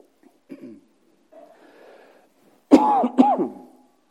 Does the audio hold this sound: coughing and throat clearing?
yes